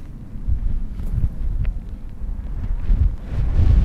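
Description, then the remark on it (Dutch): Strong wind blowing over open countryside along the Sneekertrekvaart canal buffets the microphone in low, rumbling gusts, swelling and easing continuously and growing louder toward the end, with no voices. “Hoor de wind. Die jaagt langs de snekertrekvaart over het land.”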